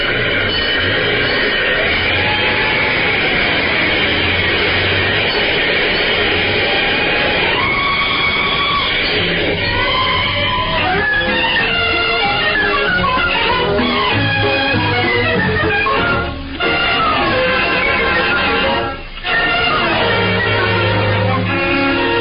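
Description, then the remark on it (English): A fire engine roars away, its siren wailing in rising and falling sweeps over a heavy, continuous engine rumble. The sound is loud and dense, lasting about twenty seconds with no talking. “This fire engine for Let's Pretend, Puss in Boots, and Points North. Step on it.”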